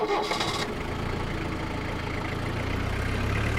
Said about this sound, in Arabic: وانطلقت السيارة في الطريق المظلم نحو جريبو.